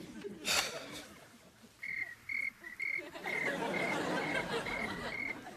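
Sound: crickets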